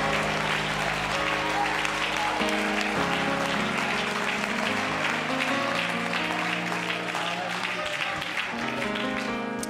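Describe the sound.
A church audience claps continuously and energetically in worship, the dense wash of hands layered over sustained music and indistinct voices, loud and never letting up.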